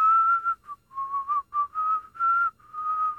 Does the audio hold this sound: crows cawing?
no